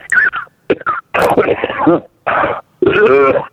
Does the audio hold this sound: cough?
yes